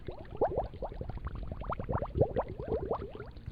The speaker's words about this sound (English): So right now, the fish, by default in Scratch, has two different sounds that it has. One is called bubbles, and I can play that if I'd like to.